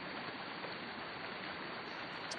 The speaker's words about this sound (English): There we are. You can see it coming out of the ground. You can hear that noise of water. This is a spring water that has come out of a mountain.